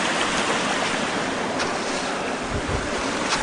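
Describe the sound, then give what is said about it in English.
Steady rushing water of a creek coming down through waterfalls in heavy snow fills the scene, a dense continuous roar of flowing and falling water with faint wind buffeting, no voices present. “There's where it comes down through the waterfalls.”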